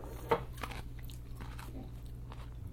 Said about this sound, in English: And that crunchy thing is a cucumber.